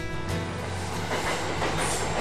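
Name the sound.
train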